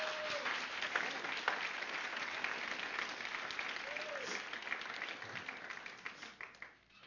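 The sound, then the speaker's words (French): An audience applauding the Lord together, a dense, steady wash of clapping that holds for several seconds, with a few faint voices rising beneath it, before it thins out and fades at the end. “Est-ce que quelqu'un peut le croire un petit peu avec moi et applaudir le Seigneur?”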